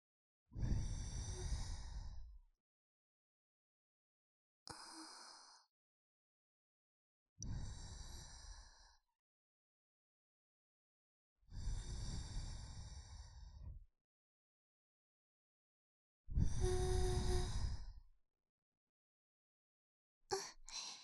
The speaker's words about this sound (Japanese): 我慢してくださいね。奥の奥までゆっくり吐息を送らせていただきます。